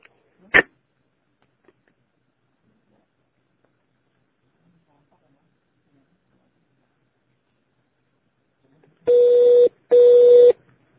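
A single sharp click, then a long stretch of silence before two loud, steady electronic telephone tones sound back to back, like a phone line ringing twice.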